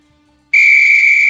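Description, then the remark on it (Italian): A loud, shrill whistle blast starts abruptly after a brief near-silence and holds steady as one sustained piercing tone, with no talking over it. “Io non posso parlare finché non c'è il fischietto.”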